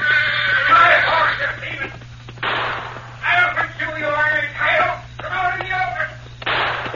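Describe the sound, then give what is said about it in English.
A guard's horse, uneasy, whinnies restlessly, giving several high, quavering neighs in bursts separated by short pauses, with a steady low hum running underneath. “That horse is getting uneasy.”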